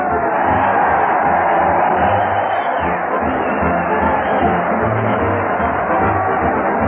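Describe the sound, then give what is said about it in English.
A dense, steady roar of a crowd cheering comedian Fred Allen as he leads his weekly parade at the old Town Hall fills the whole clip, loud and continuous with no pauses, many voices blending into a broad wash of noise. “Listen to that crowd cheer Fred Allen as he leads his weekly parade at the old Town Hall.”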